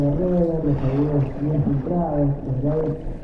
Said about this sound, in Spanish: transcurre en la pileta de natación, donde Alba sale a la superficie y se sumerge, y ahí el sonido acompaña este movimiento ajustándose a la convención de la escucha subjetiva, es decir, como si fuéramos nosotros quienes nos metemos abajo del agua.